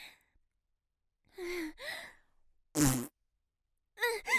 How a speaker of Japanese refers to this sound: くっさ、あんた屁こいたでしょ。すました顔して、匂いえぐいわね。